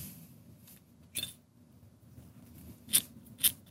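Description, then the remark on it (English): A small piece of paper with writing on it is lit and burns: three brief, sharp scratchy bursts spaced a second or two apart over a quiet, low hum, with no one talking. “Now I will light the paper.”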